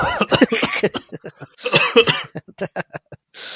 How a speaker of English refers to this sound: Why are you coughing?